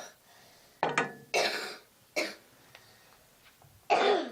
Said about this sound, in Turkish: Öksürme kızım.